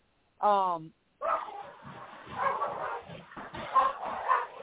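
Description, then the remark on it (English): Dogs fighting: one sharp, whining yelp, then a brief pause and several seconds of rough, continuous snarling and barking at a steady, fairly loud level. “The dogs are going to kill each other again. Hold on a sec. Dog fight.”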